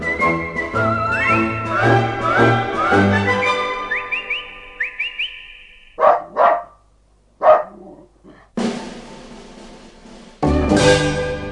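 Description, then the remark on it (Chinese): A whistled, gliding tune gives way to three or four sharp dog barks, spaced irregularly, followed by bursts of rough noise; no one speaks. “亲爱的小朋友，你喜不喜欢小狗啊？”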